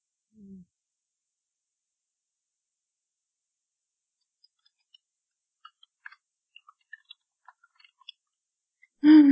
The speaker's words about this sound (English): You have a very loud keyboard, by the way. I have a what? A very loud keyboard.